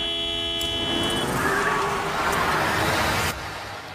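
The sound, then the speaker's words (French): A car horn blares in a long, steady honk amid busy traffic noise, then cuts off abruptly, leaving the rumble of the road. “Tu sais ce que c'est un klaxon de courtoisie, jeune homme ?”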